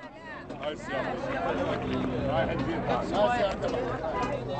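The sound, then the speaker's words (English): A crowd of taxi drivers calling out over one another on a December morning in Baghdad's Mansour neighborhood as a bus loaded with Iraqi refugees returning from Syria pulls up, some calling out names of Sunni neighborhoods; a steady outdoor hubbub of overlapping raised voices, with no single speaker standing clear of the babble. “On a December morning in Baghdad's Mansour neighborhood, a crowd of taxi drivers mobilized as a bus pulled up loaded with Iraqi refugees returning from Syria.”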